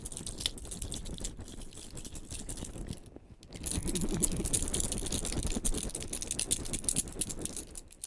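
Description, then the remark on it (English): Keys jingle and rattle in a steady stream of bright metallic clinks, pausing briefly partway through before resuming louder and busier. No one speaks. “Okay, we'll trade. I get the keys now.”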